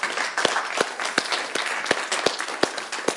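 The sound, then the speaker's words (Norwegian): A lecture audience applauds itself at the end of a class in a steady, dense wash of clapping, with a few sharper claps standing out at a regular beat throughout. There is no talking, only the sustained applause. “Så, siste applaus til oss selv.”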